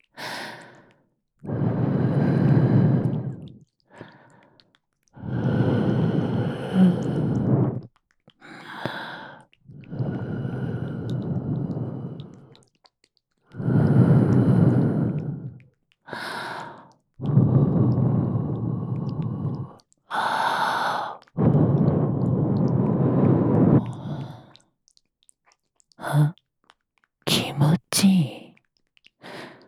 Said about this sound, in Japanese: 耳が寂しいでしょ？吐息をかけてあげます。